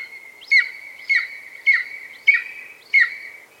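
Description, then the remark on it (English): A golden eagle gives five thin, high, yelping chirps at an even, quick rhythm, each a short downward-sweeping note over a faint steady whistle, clear with no talking. “The golden eagle is a bird of epic proportions, not only for their impressive size, but also for the many legends they've inspired across human history.”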